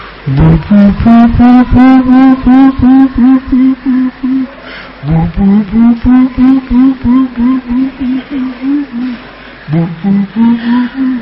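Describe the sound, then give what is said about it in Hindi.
Someone imitates the call of a bird heard in Nashik, at Jatayu Tirth and at Kapildhara: three loud phrases of quick, evenly spaced hooting notes, each phrase starting with a lower swoop before settling into a steady, repeated pulse. “एक पक्षी है वो खोआ के बड़ा है, लेकिन इसी रंग के इसके पंखे हैं, ये आवाज करते।”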